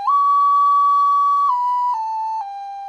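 A brownish, glazed, bird-shaped ceramic clay whistle made at the Sauli ceramics studio is blown in one long, steady, clear tone, then steps down in pitch three times. It is fairly loud, with no voices.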